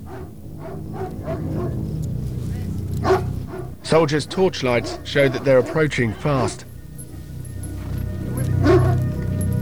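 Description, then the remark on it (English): Several vicious dogs leading a foot patrol at night bark and yip in quick, excited bursts, with a low rumbling engine drone underneath and a man talking over the commotion. “A foot patrol advances, and they're led by vicious dogs.”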